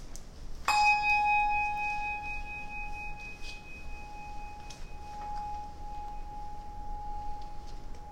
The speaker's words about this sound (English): After the ringing of a bell and a moment of quiet, we'll begin our worship this morning.